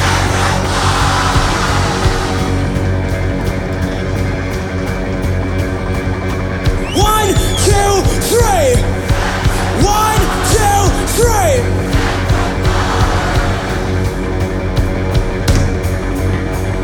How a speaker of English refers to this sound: On the count of three, we're gonna yell sacrifice as loud as we can. Ready? 1, 2, 3!